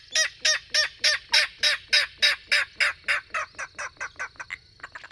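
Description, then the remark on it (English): A king rail calls in a marsh in a long, steady series of harsh, grunting notes, loud at first, then speeding up slightly and fading toward the end, with no voices. “Reeds and bulrushes provide cover for secretive marsh birds like king rails.”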